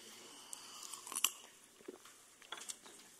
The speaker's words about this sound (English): So if we can keep it up, I just want to get a sip of water.